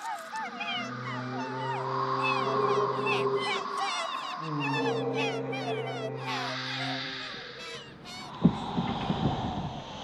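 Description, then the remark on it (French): Two long, deep ship's horn blasts from a boat leaving for Argentina sound over a steady harbor backdrop, with seagull-like cries chattering throughout and a sharp thump near the end. “Elle prend un bateau et part pour l'Argentine.”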